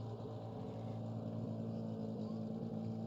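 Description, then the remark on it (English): Race car engines rumble and idle together in a deep, steady drone as they begin to come to life before a sports car race, holding a constant loudness for a few seconds without revving up or cutting out. “Engines beginning to come to life.”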